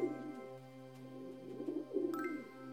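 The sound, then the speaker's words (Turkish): Pigeons being fed handfuls of seed coo in soft, throaty, rolling calls that rise and fall in a few overlapping bursts, moderately quiet, with a faint steady hum underneath and no talking. “Onların şarkıları diğer kuşlardan çok farklıymış.”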